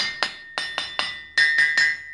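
A blacksmith's hammer strikes an anvil about eight times while working heated iron, in a quick, uneven rhythm, each blow loud with a bright metallic ring that lingers between hits. No voices.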